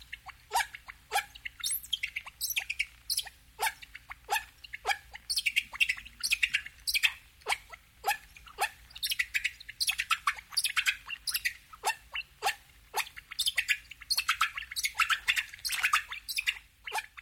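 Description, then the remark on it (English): Sped-up humpback whale calls form a dense, rapid stream of high, squeaky chirps and squawks that sound much like birdsong, repeating in quick rhythmic bursts throughout with no talking. “And many of the sounds that emerge, just as the blackbird sounded like a whale when we slowed it down, these sped-up whale calls start to sound an awful lot like birdsong.”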